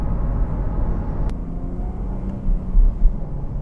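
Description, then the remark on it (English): Steady, heavy low rumble of freeway traffic heard while driving on the freeway, with motorcycles zipping along; a brief swell of engine noise near the end as a vehicle passes and a single sharp click partway through. “We are on the freeway now. Wing is up. Motorcycles zipping along.”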